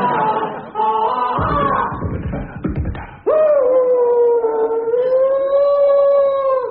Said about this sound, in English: Right, well, it's nearly time to watch Gustav howling before the late show.